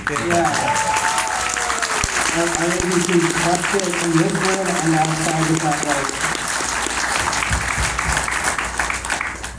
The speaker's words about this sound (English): But in reality, guys, can we get an awesome round of applause for our AV team?